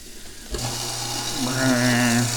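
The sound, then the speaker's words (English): A garbage disposer switches on abruptly after a brief quiet moment, then runs with a steady low motor hum and a loud, constant grinding whir, its tone shifting slightly toward the end. “Because now, it's time to run the disposer.”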